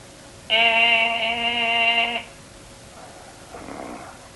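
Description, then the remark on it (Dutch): A man lets out a loud, drawn-out buzzing snore lasting nearly two seconds, with a steady droning pitch. It is followed by a pause and a fainter, breathy exhale. “Die vrijer die snurkt weer als een brontol.”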